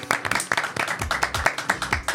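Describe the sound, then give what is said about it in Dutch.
A short burst of applause from a few people, quick overlapping hand claps in an uneven, steady patter, fairly loud and bright, with no voices over it, as they applaud themselves at the end of a show. “Ja, thanks, even een applaus voor jezelf.”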